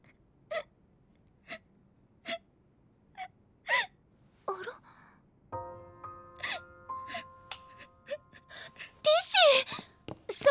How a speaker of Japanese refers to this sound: 座り込んで泣いてるなんて、どうしました？何があったんです？